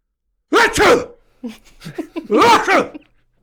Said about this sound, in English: I will tell you that I have a sneeze that can be extremely disruptive, as my own wife has told me many a time. And it goes a little something like this.